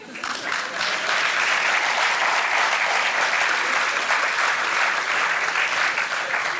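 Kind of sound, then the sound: crowd, audience applause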